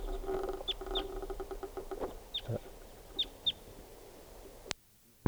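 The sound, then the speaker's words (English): Calls of a wild juvenile crossbill that is with two others: a handful of short, high, chirpy notes at irregular intervals, some in quick pairs, over a low steady background rumble, ending with a sharp click. “So recording collected that bird. It's a juvenile.”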